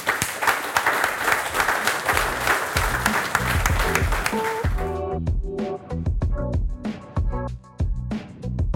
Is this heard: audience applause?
yes